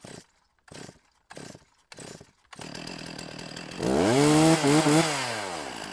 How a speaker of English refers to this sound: A chainsaw splutters into life in a redwood forest. But this isn't a logging party. The chainsaw operator is Chuck Striplin, an environmental scientist with the San Francisco Estuary Institute.